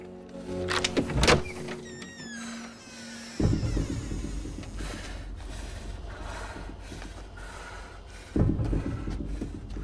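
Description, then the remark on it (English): A few sharp metallic clicks and rattles as a key turns in the lock of a house's front door, followed by a long mechanical grinding as the door swings open. No one speaks. “She unlocks the door.”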